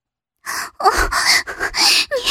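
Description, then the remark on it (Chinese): A woman pants and gasps for breath during sex, worn out from a strenuous position, a quick run of five or six breathy, strained inhalations and exhalations, fairly loud, with no talking. “仍娇喘连连，因为刚才的体位太吃力”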